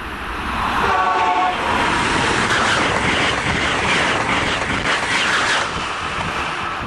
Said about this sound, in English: At a reported speed of 150 miles per hour, this YouTube video shows an Acela train shooting past a station in Kingston, Rhode Island.